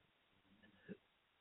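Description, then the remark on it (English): A single short cough, a brief muffled burst rising out of quiet background noise, with no talking around it. “excuse me, I'm coughing.”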